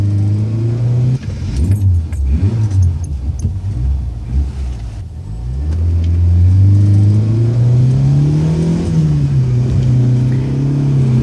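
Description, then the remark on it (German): A car engine revs and accelerates hard during a chase on a winding road down to the coast, its pitch dipping during gear changes before climbing steadily into a loud, sustained roar. Prominent, with no voices. “Justus stieg zu Peter ins Auto und los ging die Verfolgungsjagd.”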